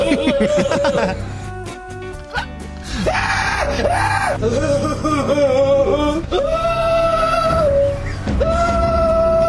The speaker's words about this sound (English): What kind of scream is that? It's like a comedy scream, isn't it? From one of those like haunted house programs.